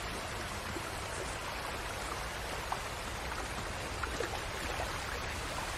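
Steady flowing water of a warm hot spring fills the scene, a constant hiss and burble with faint splashes, continuous and even throughout with no voices.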